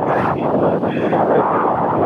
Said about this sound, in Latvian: Mēs dzirdam pamatīgu vēju, tevi tur neplosa milzu viļņi? Nu, vējš ir tās, diezgan šobrīd tās spēcīgs,